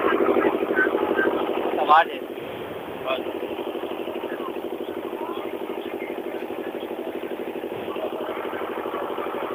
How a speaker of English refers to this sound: there's the engine over here where we're standing. Making a lot of noise